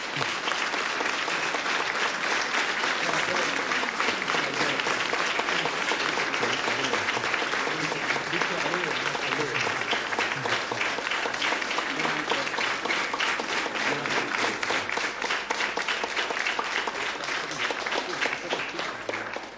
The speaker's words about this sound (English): So I ask to do a very big applause for Bishop Stanislav. Prosím, veľký potlesk pre pána biskupa Stanislava.